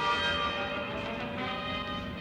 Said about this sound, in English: Get those bells.